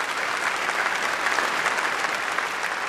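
Steady, dense, prolonged applause from a large crowd at a gathering of the Jewish community, as the Pope rises to pay homage to Holocaust survivors present; many hands clap continuously at an even loudness for the whole stretch, with no voices standing out.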